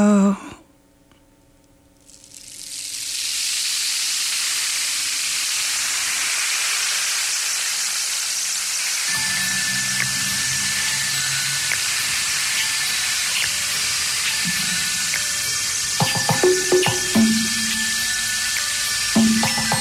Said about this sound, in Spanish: ¡Uy, cuánta lluvia!